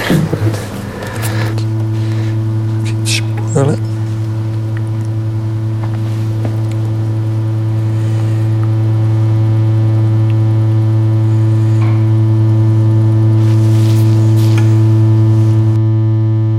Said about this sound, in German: Was ich dort gemacht habe, ist wirklich, wirklich rein alles Rückkopplungen gewesen, bis auf einen super primitiven Oszillatoren-Synthi, den ich gebraucht habe, um irgendwie drei Töne anzubringen.